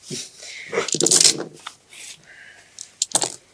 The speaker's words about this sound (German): Oh Gott, wie kann man so viele Würfel so schlecht würfeln? Das ist nur ein Erfolg! Das ist ein einziger Erfolg!